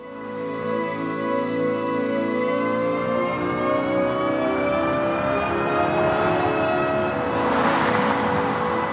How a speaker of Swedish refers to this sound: Det här är då elbilar som finns ute på marknaden, och då kan de låta så här.